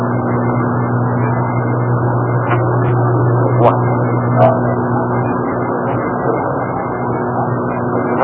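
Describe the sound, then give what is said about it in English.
A car's engine drones with a steady low hum and broad rushing noise, holding an even loudness throughout, with a few faint clicks and a single brief spoken word. “You hear a car?”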